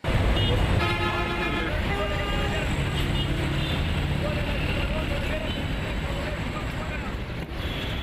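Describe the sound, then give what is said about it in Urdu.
Dense city traffic in Peshawar roars steadily, with several car horns honking over the rumble of engines, loud throughout, with no pauses. “پشاور سے نامہ نگار رفعت اللہ اورکزئی کی رپورٹ سنیے جو ٹریفک کے شور کی آواز سے شروع ہوتی ہے.”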